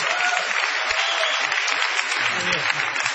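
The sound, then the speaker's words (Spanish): Steady applause from a group for the percussionists fills the whole stretch, a dense crackle of many hands clapping at an even loudness without pause. “Un aplauso, sí.”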